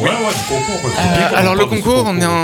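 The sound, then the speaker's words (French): A baby cries out loudly, a wavering, bleating wail that keeps going with only brief catches of breath. “Attention, bébé, bébé d'intervention.”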